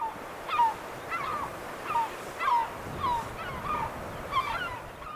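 Repeated loud herring gull calls ring out in a series of short, strident cries, roughly one every half second, over a steady rushing background like surf or wind. No one speaks.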